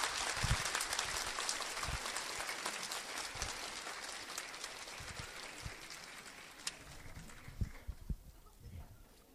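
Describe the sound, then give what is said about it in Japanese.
Sustained audience applause after a performance by a music club with clarinet, saxophone and trumpet players, a dense wash of many hands clapping that gradually fades after about six seconds, with a few isolated louder claps near the end. “改めましてもう一度皆様大きな拍手をお送りくださいませ。”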